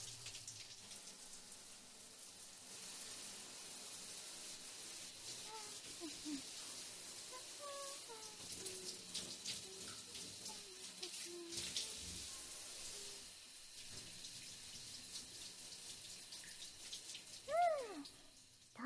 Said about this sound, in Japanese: では次は体の方にシャワーかけますよ。